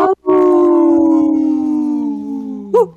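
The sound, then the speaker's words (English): Three people's voices imitate a wolf howl, a long sustained wail that slowly falls in pitch, held for nearly three seconds and ending in a brief rising yelp. Loud. “Sometimes it's better with just us three to howl. We howl.”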